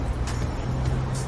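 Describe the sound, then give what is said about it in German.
A city bus rumbles past on the Kudamm, a busy street, its deep, steady engine drone loud over a wash of traffic noise, with a faint hiss of air brakes. “Da ist der Bus.”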